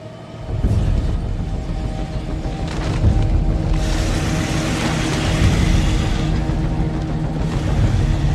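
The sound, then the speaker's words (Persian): A heavy truck drives steadily at a not very high speed, its deep engine rumble and road noise filling the scene at a constant level after a quick start, with a slight swell partway through. “سرعت کامیون خیلی زیاد نیست.”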